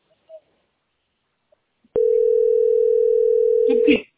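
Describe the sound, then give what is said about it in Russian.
A steady, unbroken telephone dial tone hums loudly from an off-hook receiver for about two seconds, starting abruptly and cut off by a brief clatter of handling at the end. “Ну, я же ее повесила уже вроде бы. Ну, давай. Где она? Что это, трубка?”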